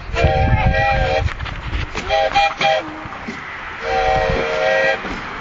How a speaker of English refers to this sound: Are people getting on the steam train?